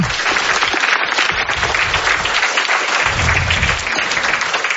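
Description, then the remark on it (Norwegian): An audience at the opening of a conference applauds steadily, a dense wash of many hands clapping at once that stays loud and even throughout, with no voices standing out above it. “Vi gir en applaus.”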